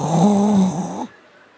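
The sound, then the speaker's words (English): A voice imitates a single drawn-out snore, a loud, buzzy nasal rumble lasting about a second before it cuts off into silence. “I'll be snoring.”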